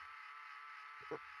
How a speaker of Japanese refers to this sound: そう、これは携帯のバイブレーションの音なんですよ。いつも携帯をペンケースに入れて持ち歩いているんですよ。